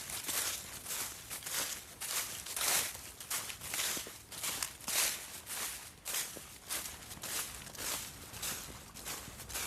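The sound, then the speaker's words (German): Steady footsteps crunch along a soft, gravelly bridle path on the Prater Hauptallee, each step a bright scuffing burst in an even walking rhythm, with no voices. “Fürs Atmen während des Gehens eine Herausforderung. Hier am Reitweg der Prater Hauptallee geht das ja.”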